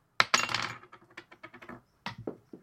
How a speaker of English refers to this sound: That's the worst dice roll I've ever fucking seen.